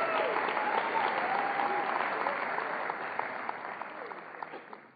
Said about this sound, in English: Please give your hand of applause to the goodness of the Lord.